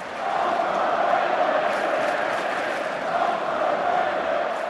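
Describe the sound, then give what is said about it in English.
A large arena crowd at a Boston Celtics home game chants "Overrated, overrated" loudly and steadily at Chris Bosh and his teammates, a dense wall of many voices roaring together with a slight rising and falling swell, filling the space without pause. “Overrated, overrated, roared the crowd.”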